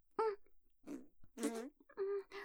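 Several short, buzzy fart noises in quick succession, fairly loud, each a brief rasping burst separated by small pauses, with no talking.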